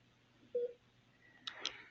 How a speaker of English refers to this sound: This fucking machine is annoying the shit out of me. All it does is fucking beep.